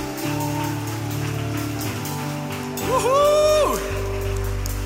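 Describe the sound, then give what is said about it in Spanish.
A crowd claps in a steady, dense patter, with low sustained music underneath and a loud wavering voice or tone that swells and then falls away midway. The crowd is applauding for Jesus. “Dale más fuertes aplausos a Jesús.”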